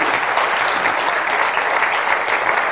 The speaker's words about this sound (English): So you've been fab and I think the children deserve a round of applause. Well done, guys.